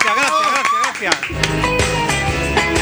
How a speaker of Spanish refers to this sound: Hoy hace 7 años que hice mi primer programa de radio en esta emisora. ¡Aplaudidme, coño!